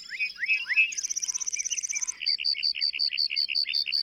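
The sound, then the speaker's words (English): A lark bunting's varied song rings out clearly: a few slurred whistles, then a rapid buzzy trill, then a series of repeated sweet chirping notes in quick rhythm, with no voices. “Male lark buntings perform elaborate flight displays to attract mates and fend off rivals.”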